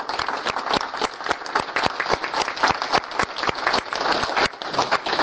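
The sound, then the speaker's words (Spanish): A church audience welcomes newcomers before Mass with steady applause, many hands clapping together in a dense, even patter with sharper individual claps standing out, sustained at a fairly loud level throughout. “Muy bien, entonces queremos dar la bienvenida a los nuevos y darles un aplauso por su presencia, los nuevos.”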